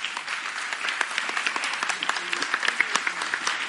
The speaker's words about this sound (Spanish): Aplausos.